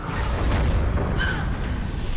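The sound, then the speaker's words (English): A powerful punch sends a yellow mecha crashing down: a loud, sustained booming rumble with a faint metallic ring over it, lasting about two seconds with no voices. “A powerful punch knocks down the yellow mecha.”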